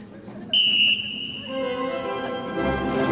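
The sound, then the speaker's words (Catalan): A single short, sharp whistle blast rings out loudly in a church as a signal to uniformed city police officers, then gives way to sustained tonal sounds like an organ or music swelling. “Després de fer una reverència al capellà, es tomba cap als presents, s'estira l'americana, fa un cop d'ull al rellotge i agafa el xiulet.”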